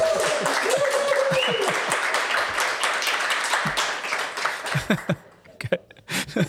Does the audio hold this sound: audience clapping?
yes